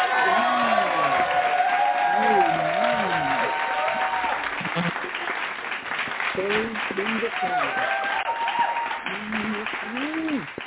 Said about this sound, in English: So we are going to welcome her with a hand clap praise. Amen.